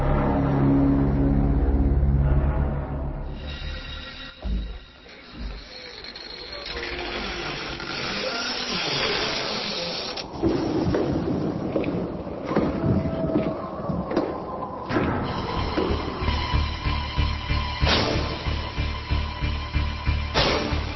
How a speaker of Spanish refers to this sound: Ay, ay, ay, se abrió esa puerta, se escuchan esos pasos. Y para mí que se viene. Ay, si es el Conde Drácula, o capaz que su hija, capaz que lo acompañe en su deambular por el castillo.